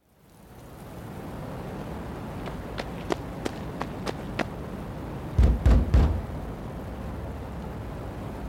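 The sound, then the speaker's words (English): Urgent knocking at a man's door on a cold May night in 1869, street lights out: a quick run of about seven sharp raps, then three heavy, booming thumps, all over a steady hiss with no voices. “People would normally be in bed, the street lights are out, and a man suddenly hears a very frantic and urgent knocking at his door.”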